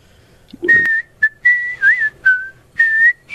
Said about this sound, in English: Another hidden talent undiscovered. You are quite the whistler. Picked it up from my dad.